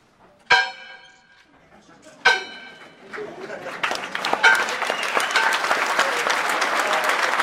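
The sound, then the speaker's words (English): A bell salvaged from an old chapel at a ranch rings out twice during a service, clear and resonant with a long ringing tail, then a crowd breaks into steady, swelling applause that continues to the end. “So we're going to ring that bell right now.”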